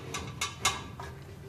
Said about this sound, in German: Und wenn man die Schublade aufmacht, dann knistert es auch. Und zwar, das sind Hüllen, die so knistern, Papierhüllen für Ukulele-Strings. Verschiedene Hüllen, Mandolinen sind auch, glaube ich, zwei dabei.